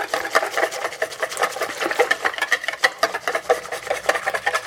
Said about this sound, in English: I'm going to whisk all of these little clumps out, or try.